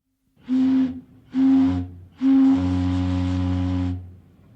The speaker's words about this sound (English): He finds this magic lamp. A siren noise blasts out of the Hildy device.